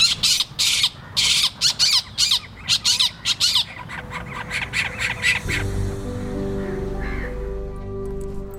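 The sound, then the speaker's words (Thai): A spotted owlet at Suan Rot Fai park gives a rapid run of harsh, raspy screeching notes, loud and chattering, then the calls grow softer and trail off over a low, steady rumble. “เสียงร้องของนกเค้าจุดขวัญใจประจำสวนรถไฟเพราะภาพถ่ายครอบครัวนกเค้าจุดที่ถูกแชร์กันในโลกออนไลน์ทำให้ใครหลายคนที่มาเที่ยวสวนรถไฟต้องแวะมาตามดูด้วยตาตัวเองสักครั้ง”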